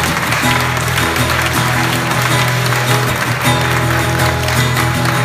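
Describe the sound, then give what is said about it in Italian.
An audience claps steadily and loudly as applause of thanksgiving to the Lord, a dense, crackling wash of applause running the whole time over sustained tones of music or singing underneath. “E allora facciamo un canto di ringraziamento, un applauso al Signore.”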